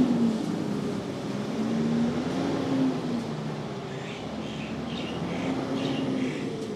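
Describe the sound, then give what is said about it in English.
A truck rumbles past outdoors on the south coast of KwaZulu-Natal with a steady low engine drone that swells and fades slightly, while faint birdsong chirps high above the noise. “Nonetheless, there's a truck here. I'm going to let it pass.”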